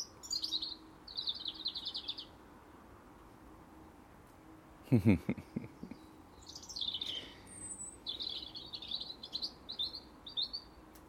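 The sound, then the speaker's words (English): In a garden, a female blackbird gathering dry, straw-like grass for her nest gives high, thin chirping calls in short repeated bursts, fairly faint over a low background rumble, with a brief soft thump partway through. “And Mrs. Blackbird has just appeared and she's picking up all the dry, straw-like type grass for her nest.”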